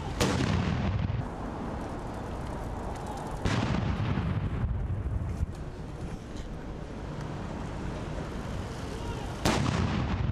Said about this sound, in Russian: Отряд королевской конной артиллерии доставил в Грин-парк 6 полевых орудий времен Первой мировой войны. Затем из каждой пушки с интервалом в 10 секунд был произведен 41 залп.